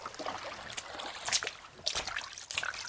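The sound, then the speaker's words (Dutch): Water splashes and trickles in irregular bursts, with bright drips and sloshing, as someone climbs out of the water after a refreshing swim. No one speaks. “Oh, een deugd doet dat niet zo'n opfris zwemmeke. Ik kom er al terug uit, hè.”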